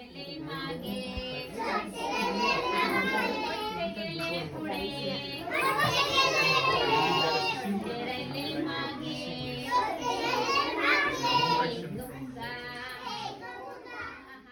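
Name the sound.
children playing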